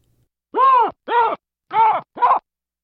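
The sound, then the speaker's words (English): Female baboons give a chorus of loud alarm barks at a lion: four harsh, harmonic calls in two pairs, each rising then falling in pitch, with brief silences between them. “And that's a chorus of females giving barks to what was a lion on that occasion.”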